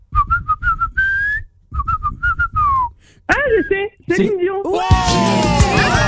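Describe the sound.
Someone whistles a pop melody by a major international female singer in short, clear phrases of quick repeated notes and sliding tones, then a louder, richer voice takes over in the second half.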